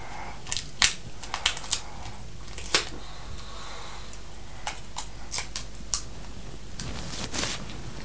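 Blunt scissors snap and crunch against sticky tape in a series of irregular snips and crinkly rasps as someone tries and fails to cut the tape, with no clear talking.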